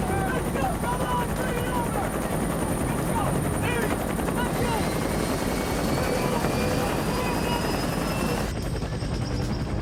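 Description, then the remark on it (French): Loud, steady helicopter rotor noise fills the whole stretch, a dense chopping roar that never lets up, with indistinct voices buried faintly underneath. Helicopters wait at a landing zone as soldiers hurry to reach them. “Les soldats se pressent pour atteindre le terrain d'atterrissage où des hélicoptères les attendent.”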